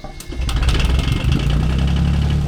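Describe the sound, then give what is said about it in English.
A boat engine is cranked to check it. It catches, then settles into a steady, loud, rumbling idle with rhythmic low-pitched chugging and faint higher clatter, with no voices. “Good thing I decided to crank the engine before people start driving down here.”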